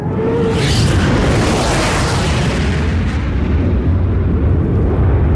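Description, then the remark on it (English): A fighter jet roars overhead, a loud, steady, rumbling wash of engine noise with a deep low end and a hissing upper layer that holds strong for several seconds, with no voices. “Holy shit, it's a fighter plane.”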